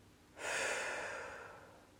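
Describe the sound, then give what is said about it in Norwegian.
A single deep, airy breath taken during a guided meditation, starting suddenly and slowly fading away over a second or so, with no talking. “Prøv at tage en dyb indånding. Og mærk følelsen af den dag om et år. Og pustet.”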